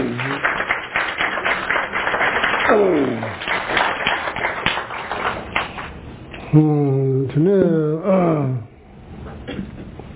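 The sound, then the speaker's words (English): A crowd gives a round of applause for everyone who participated, with steady, dense clapping for about ten seconds, joined by a few drawn-out, wavering cheers or whoops rising over it toward the end before the clapping thins out. “Maybe give big round of applause for everybody who participated.”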